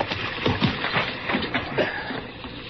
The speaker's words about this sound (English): One of the horses here, Chester.